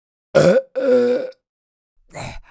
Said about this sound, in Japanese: ゲップも出ましたわ。待ってください、まだ出ます。